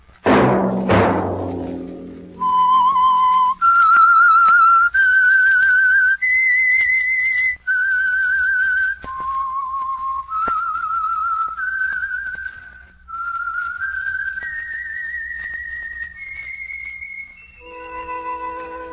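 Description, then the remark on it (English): A sharp struck chord rings out and fades, then a lone whistler carries a slow, eerie melody of long held notes, clear, ending on a brief instrumental sting: the whistled theme of the radio program The Whistler, presented by Household Finance Corporation. “Let That Whistle be your invitation to listen to the Household Finance Corporation program, The Whistler, each week over these stations.”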